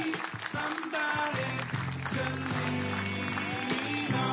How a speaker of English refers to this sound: So everyone give him a big round of applause.